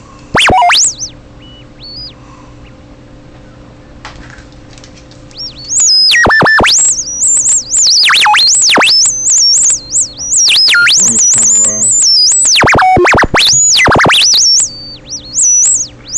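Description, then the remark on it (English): Robot scanning beeps from a sound effect called Key Jazz Robot Scan: rapid high-pitched electronic chirps and warbling tones that sweep up and down, starting sparse, then bursting loud and dense for several seconds with brief gaps. “Let's see, Key Jazz Robot Scan. Beep, beep, beep.”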